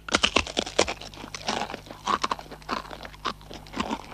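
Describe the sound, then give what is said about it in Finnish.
Crisp, crackly crunching of someone chewing crunchy food, a rapid irregular series of sharp bursts with brief pauses, steady and moderately loud with no talking. “Esimerkiksi rapean ja rouskuvan ruoan tämmöinen tuoreus, rapeus, miellyttävyys voimistuu tai vaimenee sen”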